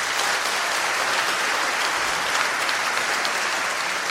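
An audience claps steadily for about four seconds to show they think Donald Trump would beat Bernie Sanders in a U.S. presidential election, a dense, even wash of many hands at a fairly loud level with no speech over it.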